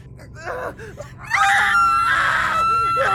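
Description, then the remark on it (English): Two people scream in pain and fear as their bodies change and their bones break, starting with short strained cries that swell into loud, sustained, overlapping shrieks almost in unison, with no talking. “… and I started screaming, almost in unison. and about in the same tune.”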